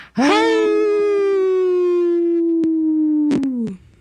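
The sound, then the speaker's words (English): A person imitates a wolf howl: one long, loud voice that swoops up, holds a steady wailing tone for about three seconds, then drops away, with a few sharp clicks near the end. “We howl very quietly.”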